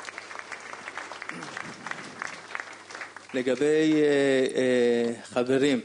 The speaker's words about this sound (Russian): И здесь как раз время поблагодарить женскую часть, которые уже закончили расписание основных женских дежурств за неделю до и просто заработали аплодисменты.